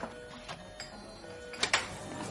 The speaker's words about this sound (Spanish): No, es de impresora, ¿no? De ordenador. Ah, de impresora.